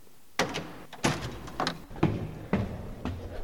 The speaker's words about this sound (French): Et donc, on va ouvrir la porte qui est derrière l'hôtel et on va découvrir ce lieu.